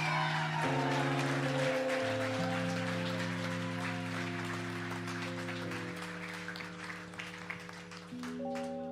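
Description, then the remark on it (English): A large audience applauds steadily and loudly for several seconds, dense clapping while sustained musical chords play underneath and shift in pitch. “I don't know why you clap.”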